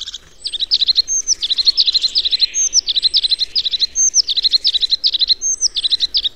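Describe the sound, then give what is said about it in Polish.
A tit's song: rapid, bright chirping notes in repeated bursts, interspersed with high, thin whistles, loud and continuous with no voices. “W typowej zwrotce omawiane dźwięki przeplatane są wysokimi gwizdami.”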